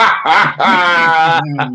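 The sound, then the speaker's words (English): A person imitates a dog barking, giving a few loud, drawn-out voiced barks and yelps in quick succession, with no other sounds. “Listen, I heard you barking too with your fence sitting batty business, fam.”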